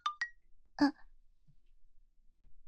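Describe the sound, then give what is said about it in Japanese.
A message notification on a senior schoolmate's smartphone sounds as two quick, bright electronic tones in succession, followed by a brief muffled buzz, then near silence. “先輩のスマホのメッセージが来てる。”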